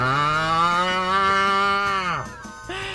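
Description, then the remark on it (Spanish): A person imitates a cow with one long, loud, sustained moo lasting about two seconds, then a brief falling tail-off and a short second sound. “Wow, mismamente es una vaca.”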